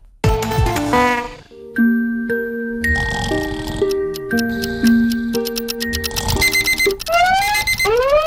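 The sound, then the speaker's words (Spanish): An alarm clock rings loudly and without pause, playing a bright electronic melody of chiming, bell-like notes that step up and down, ending in a rising flourish. “¡Maldita vida! ¡Odio existir! Harto del despertador.”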